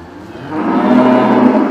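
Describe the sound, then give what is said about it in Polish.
A single cow on a farm near Pogorzela in Wielkopolska, Poland, moos loudly, a drawn-out, steady low call that swells after a brief start and holds for over a second with no one talking. “Gospodarze z okolic Pogorzeli znają każdą krowę po imieniu.”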